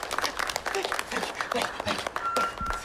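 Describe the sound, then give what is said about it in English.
An audience of children seated in rows in an auditorium claps steadily, a dense wash of many hands with crisp overlapping slaps throughout, fairly loud, while a voice briefly murmurs underneath, welcoming Corky, a visiting FBI agent, to the podium. “Clapping's a little loud.”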